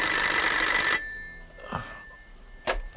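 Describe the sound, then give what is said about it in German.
A telephone bell rings loudly for about a second with a bright metallic trill, then stops, followed by a couple of faint handling sounds and a short click. “So war er zum Glück ganz allein, als das Telefon klingelte.”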